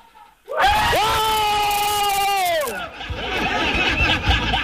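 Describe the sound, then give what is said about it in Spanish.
A crowd bursts into a loud, sustained group cheer, many voices holding a long shouted note together for about two seconds before it breaks into scattered yelling and chatter. “Chiquillos, quiero escuchar el grito, el grito, el grito.”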